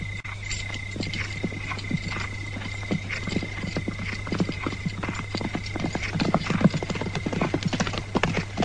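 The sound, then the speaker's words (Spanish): Hundreds of horses of an army of 3,000 men galloping, many hooves clip-clopping in a dense, continuous clatter that stays fairly loud and steady throughout, with a low constant hum underneath and no one speaking. “Es un ejército poderoso. 3.000 hombres, cientos de caballos.”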